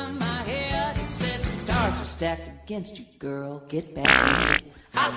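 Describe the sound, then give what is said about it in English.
A string of loud, sputtering fart noises, some long and buzzy, others short and wavering, with a brief pause before a final blast. No one speaks. “She has spent all her life crafting her music, and you just farted over it.”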